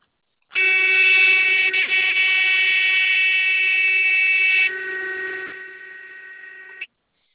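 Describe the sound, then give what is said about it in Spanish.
A truck's low air-pressure warning alarm, set off because the pressure in the air tank is slightly low, sounds as one steady, loud, buzzing tone for about six seconds, dropping somewhat in volume near the end before cutting off abruptly. No one speaks. “es lo del tanque de aire, es que está un poquito baja la presión.”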